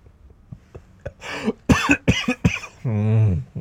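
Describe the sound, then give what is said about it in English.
A loud coughing fit from a person sick with a virus: four or five harsh coughs burst out in rapid succession after a few soft breaths, ending in a strained, drawn-out vocal groan. “Because if I laugh, I cough.”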